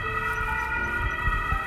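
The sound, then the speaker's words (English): An emergency vehicle siren sounds steadily throughout, a sustained, tonal wail with layered harmonics over a low rumble of road noise. No one speaks. “I'm hearing the siren pass.”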